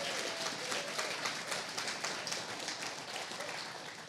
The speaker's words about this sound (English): So could you just go ahead and put your hands together and just celebrate with me and clap and cheer?